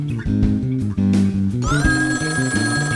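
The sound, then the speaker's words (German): A telephone rings loudly and steadily for a few seconds, its bright, warbling tones stepping up and down in pitch. No one speaks. “Wenn dieser Kerl wieder anruft, dann... Er wird wieder anrufen, das weiß ich ganz bestimmt.”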